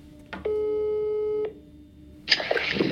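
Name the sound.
telephone ringing tone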